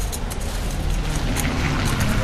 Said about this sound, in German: Aber ich sag mal, hier davor ist nicht ganz so gemütlich. Nee. Bisschen laut. Ja, hier fahren echt viele Autos entlang. Ja, die Straße ist nicht klein, da fahren auch dann auch noch Straßenbahnen drüber. Wie überall in Dresden, ja.